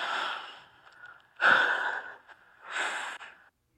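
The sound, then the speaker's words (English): Heavy, raspy breathing in an Instagram voice message, three long breaths with short pauses between them, loud and airy with no talking. “The heavy breathing, I just...”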